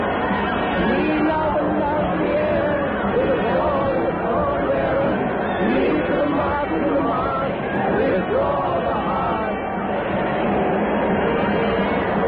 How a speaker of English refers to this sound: The crowd shrieks.